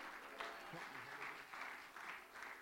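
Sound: audience clapping hands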